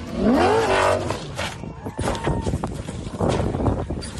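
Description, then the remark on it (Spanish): Fernando Alonso's rally car at the Rally Dakar: the engine screams upward in pitch after a jump over a dune, then cuts into a series of loud, rough thuds and scraping crunches as the car crashes and rolls over, with rumbling noise continuing to the end. “Y fíjate, Ángel, evidentemente es mejor la imagen que el sonido, pero es muy gráfico también cómo ha sido ese trompazo de Fernando Alonso hoy en el Rally Dakar.”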